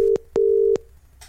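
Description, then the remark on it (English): A telephone ringing tone over the line: two steady, low electronic beeps, the second longer, with a brief pause between, clear and alone without any talking. “So I'll ring him now.”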